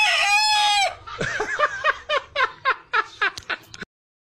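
rooster crowing

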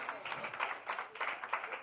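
audience clapping

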